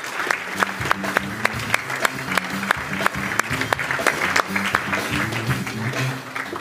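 An audience claps steadily for several seconds as a speaker is called up, dense overlapping hand claps with a few sharper pops standing out, with faint background murmur and music-like low tones underneath.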